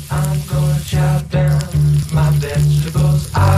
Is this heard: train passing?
no